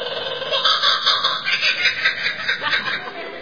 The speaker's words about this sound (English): This one I know for sure. It's the kookaburra. That is correct. Very nice. And for those of you who do not know what a kookaburra sounds like, our sound guys have a sample for that.